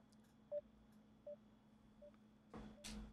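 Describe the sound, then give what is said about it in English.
A few short, evenly spaced electronic beeps like phone keypad tones as a telephone is dialed, followed by a brief burst of rustling noise. The sound is fairly quiet, with no one talking. “Let me attempt to reach him.”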